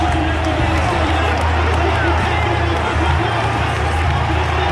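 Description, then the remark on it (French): A loud, dense crowd at the foot of the grandstands of a horse racecourse roars steadily throughout as racehorses thunder down the home straight, in a race won by number 18, Trèves; a continuous wash of cheering and babble with a low rumbling undertone and no pauses. “et la foule est extrêmement dense, et j'en prends des photos de partout, et ça y est, les chevaux arrivent dans la ligne droite.”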